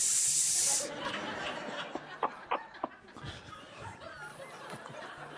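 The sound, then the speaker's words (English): A sharp, loud burst of hissing lasting under a second, then quieter scattered clicks and faint breathy sounds. “A, yes, B, no, or C, hiss.”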